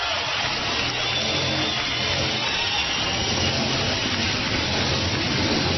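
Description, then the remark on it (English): A steady, dense roar of many Harley-Davidson motorcycle engines at the annual Harley-Davidson ride-in in Sturgis, South Dakota, blends into a continuous low rumble with a broad hiss above it, holding an even loudness throughout with no voices. “You hear the roaring in the background? This is in Sturgis, South Dakota, at the annual Harley-Davidson ride-in or whatever.”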